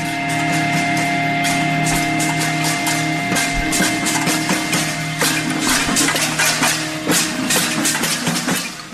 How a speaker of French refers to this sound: Alors, sur ce, quelques coups de casserole.